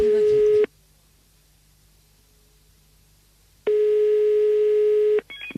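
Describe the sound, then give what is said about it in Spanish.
A loud telephone busy tone over the line after the call has been cut off: a steady electronic beep that cuts off, leaves a few seconds of silence, then sounds again for about one and a half seconds. “Y se ha cortado, adiós.”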